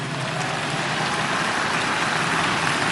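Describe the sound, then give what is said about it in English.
An audience claps steadily, many hands blending into a dense, even wash of applause that holds at a constant level for the full three seconds, with no voices rising above it. “Those of you who are clapping, your hands will never be empty.”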